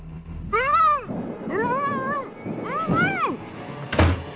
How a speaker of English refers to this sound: Or maybe you're having a tough time deciding what to do with the stray cat that's keeping you up all night.